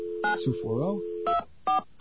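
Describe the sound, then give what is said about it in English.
A steady telephone dial tone hums under a brief spoken phrase, then cuts off as three short, bright DTMF dialing beeps follow in quick succession as a number in Manhattan is dialed. “Let's see if we can get ourselves a dial tone here. Okay, we got a dial tone. Let's dial away.”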